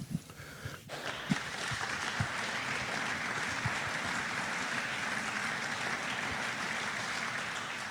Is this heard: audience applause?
yes